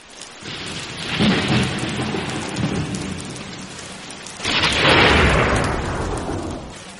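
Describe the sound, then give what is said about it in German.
Heavy rain pours steadily during a storm while thunder rumbles, then a loud lightning strike cracks in midway and rolls into a booming, sustained crash over the downpour. “Sturm kommt. Ein Blitz schlägt ein.”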